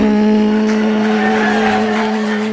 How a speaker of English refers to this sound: So guess what? My car don't make that run, run, run no more. It just runs like this.